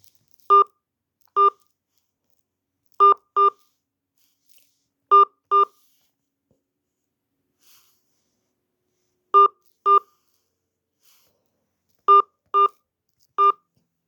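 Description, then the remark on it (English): Eleven short touch-tone keypad beeps as someone enters an account number on an automated phone payment line, pressed in small clusters, each a crisp dual-tone blip, with brief pauses between groups and silence otherwise; no one speaks. “Please enter your account number, followed by the pound sign.”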